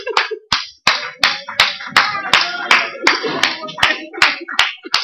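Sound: audience applauding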